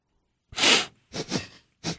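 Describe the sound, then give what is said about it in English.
Congested sniffling from a person with a bad cold and a running nose: a long wet snuffle followed by two shorter sniffs in quick succession, with no one speaking. “Nose is running.”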